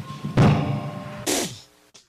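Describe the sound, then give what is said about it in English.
After a last-play question following a Jamal Murray shot, a basketball player slams a microphone down onto a table with a heavy, booming thud, followed by a second sharper bang and a faint final tap, then leaves, with no talking. “He slams the mic down and then leaves.”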